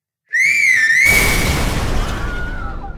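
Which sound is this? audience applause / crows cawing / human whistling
human whistling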